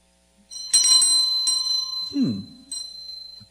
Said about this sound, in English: Someone gave this to me a long time ago. A bell.